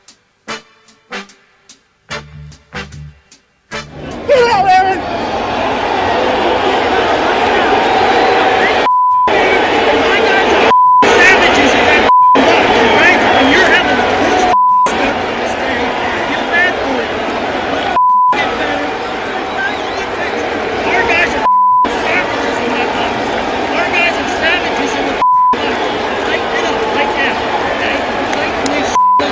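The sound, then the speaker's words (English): Several short censor bleeps, each a steady high tone, cut repeatedly into Aaron Boone's loud, heated shouting after he was tossed from the dugout over balls and strikes from the home plate umpire, with busy crowd noise, recurring every few seconds throughout. “Okay, outside the beeps, that was Aaron Boone after he got tossed yesterday talking about how his guys are savages in the box.”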